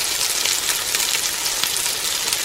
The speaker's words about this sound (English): yes, we know what that frying pan sound means. Time for the frying pan.